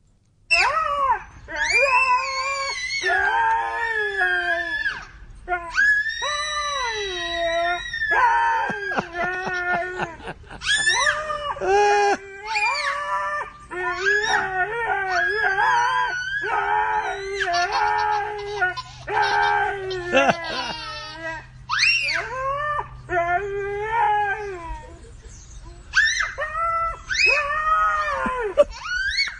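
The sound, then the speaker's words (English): A puppy howls in long, wavering, high-pitched cries alongside a young girl's voice, the two trading and overlapping sustained howls for the whole stretch, with a faint low hum underneath. “She came back from hospital to this puppy, and they've bonded. And he's actually helped her vocalize her voice.”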